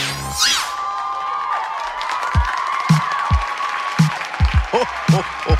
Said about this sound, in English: All right, you people get ready to cheer for the Christmas show at the Burning Spear.